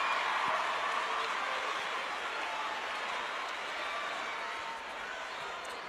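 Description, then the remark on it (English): The Blackman basketball crowd roars and cheers as Juwan Jennings is at the free throw line, in a continuous, dense wash of noise that stays loud and steady for several seconds, easing slightly near the end, with no clear voices rising above it. “Listen to the Blackman crowd.”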